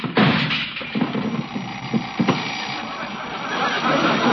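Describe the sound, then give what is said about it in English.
A heavy bed scrapes across the floor as it is pushed away from a wall, a steady grinding drag broken by a few wooden knocks and bumps. “But all we gotta do is push it away from the wall.”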